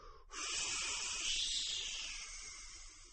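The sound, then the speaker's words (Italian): A person produces a single sustained hiss, a bright airy noise that starts abruptly and holds steady for about three seconds before easing slightly, with no speech. “Io feci un sibilo.”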